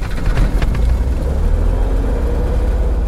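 A Cessna 180 airplane's propeller engine, started by its pilot, sputters to life with a few sharp bursts, then settles into a loud, steady rumbling drone.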